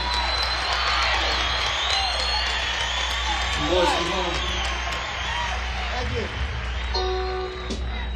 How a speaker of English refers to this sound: Ladies and gentlemen, can we have a big round of applause for the …?